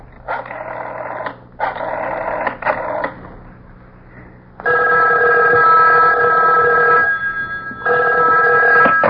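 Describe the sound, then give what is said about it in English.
A telephone rings in repeated bursts, two shorter rings followed by a pause and then louder, longer rings with a steady electronic tone. No one speaks. “I made a grab for the phone.”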